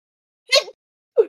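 A sudden sneeze bursts out in an otherwise quiet moment, followed about half a second later by a shorter, softer second burst.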